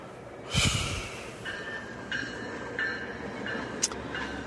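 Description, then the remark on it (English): A westbound commuter train rolls past, a sudden rushing whoosh followed by a low rumble and several sustained high metallic tones that recur, with no one talking. “It would be the westbound train going into Union.”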